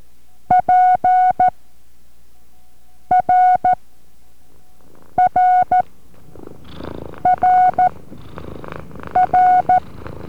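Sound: cat purring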